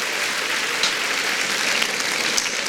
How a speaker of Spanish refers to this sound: Pero lo peor, bueno, aplaudan y tomo agua.